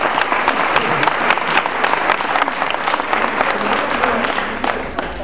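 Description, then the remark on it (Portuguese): A crowd bursts into steady applause for a musician who is present, dense overlapping claps filling the space for several seconds at a constant, loud level with no pauses. “uma salva de palmas pra presença.”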